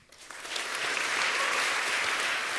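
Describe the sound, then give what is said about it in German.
Brief burst of audience applause at GPN20 for the Phone Operations Center before a demo, many hands clapping in a dense, steady patter that swells quickly at the start and holds loud and even to the end. “Kurzer Applaus.”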